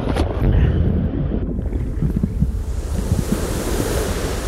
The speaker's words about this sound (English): Each day the sea greets us with a new face, from being a calm, friendly pond to an angry, raging wave fest.